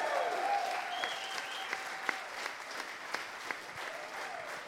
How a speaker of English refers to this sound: And so let's give Brett and Dill a massive round of applause.